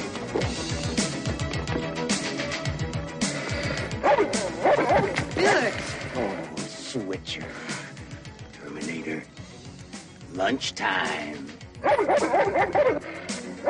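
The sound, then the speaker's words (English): A dog barks repeatedly in energetic bursts, with yips and whimpering mixed in, over a busy, loud background where people are talking and shouting. “Get it! Nice dog.”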